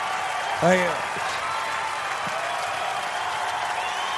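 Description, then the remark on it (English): Mounted police officers and a crowd clap steadily for several seconds as Joe Mandy marches out at the opening of his comedy album, a dense patter of many hands, with a brief cheering voice rising near the start and murmured voices underneath. “The horse cops are clapping.”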